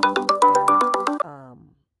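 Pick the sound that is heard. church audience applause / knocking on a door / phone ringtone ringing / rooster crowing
phone ringtone ringing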